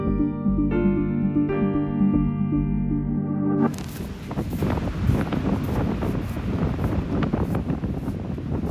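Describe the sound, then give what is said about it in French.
A steady, droning harmonic tone fills the first few seconds, then cuts abruptly to strong, cold winter wind roaring and buffeting the microphone, loud and continuous until the end, with no voices, as someone in a wetsuit prepares to go surfing. “Il fait pas chaud. Il y a beaucoup de vent aussi.”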